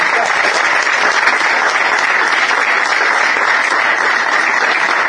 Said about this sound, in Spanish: le vamos a dar un fuerte aplauso, gracias por estar.